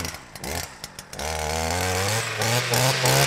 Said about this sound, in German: Sicher führt er das Sägeblatt des Freischneiders durch die mitteldicken Äste eines Strauchs neben der Bahnstrecke.